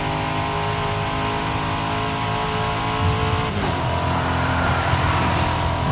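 A car engine in a driving game drones steadily while the player makes a delivery, then surges as it accelerates, its pitch climbing in a continuous revving roar with no talking over it.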